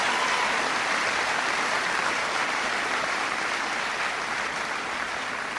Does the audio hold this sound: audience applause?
yes